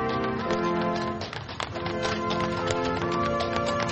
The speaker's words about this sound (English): Horse-drawn carriage brought the tree to the front door of the White House as members of a military band played Christmas music.